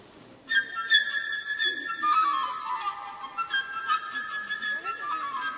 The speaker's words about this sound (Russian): Во-первых, у нас будет птичка. Птичка, прошу, сюда. Вот здесь она вам изобразит, как звучит инструмент флейта. Птичка, пожалуйста.